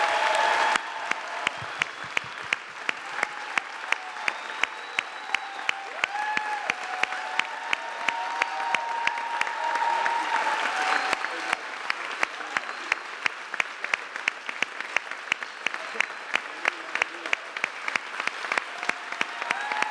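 A crowd applauds a man after a blessing, steadily for about twenty seconds, dense overlapping claps forming a continuous rush with sharp individual claps cutting through, and faint voices and cheers mixed in beneath.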